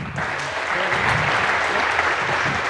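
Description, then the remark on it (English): A crowd breaks into a round of applause, a dense, steady wash of many hands clapping at once that stays loud and even throughout, with faint voices mixed underneath. “Give Raphael a round of applause.”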